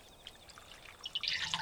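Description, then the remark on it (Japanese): Weakly acidic silvervine (matatabi) bath water in a tub, with feet soaking in it, fizzes with tiny bubbles, a soft crackling hiss that starts faint and swells louder and denser near the end, with no voices. “またたびの湯のシュワシュワなの。”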